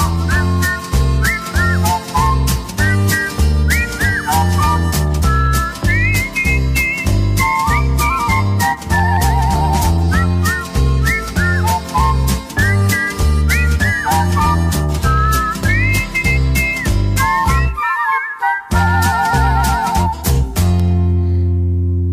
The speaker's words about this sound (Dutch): Nu fluiten ze samen en ieder die het hoort, die zegt nooit voordien heb ik dat gehoord. Luister maar.